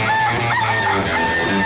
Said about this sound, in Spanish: Gallo.